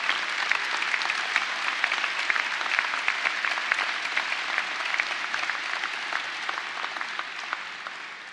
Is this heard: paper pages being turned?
no